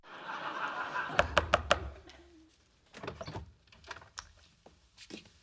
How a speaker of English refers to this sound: This is the less socialized Sheldon advertising for a new roommate, but he's got very tough standards, as Leonard learns when he knocks on Sheldon's door.